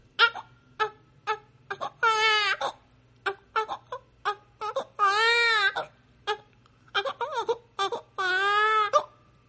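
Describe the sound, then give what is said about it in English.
A person imitates a crying baby with a series of high, wavering wails broken by short sobbing catches. The cries are loud and rise and fall in pitch, with no talking in between. “And so I will, for those who've never heard it, many of you have, but I'm going to let you hear a little bit of my baby impression right now.”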